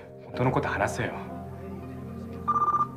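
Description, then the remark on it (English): A voice speaks briefly at the start, then a short, trilling telephone ring sounds near the end: one quick burst of rapid electronic pulses, clear. It is the phone that Hiro answers. “Hiro answers the phone, and a voice says, my name is Tadashi.”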